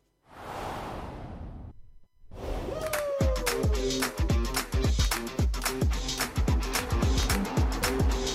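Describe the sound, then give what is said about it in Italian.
Formula 1 cars roaring off at the start of the Qatar Grand Prix: a brief whoosh, a pause, then a dense, loud wall of high-pitched engine howls with rapid gear-shift drops and rising pitches layered over each other. “della gara di Formula 1, e nient'altro”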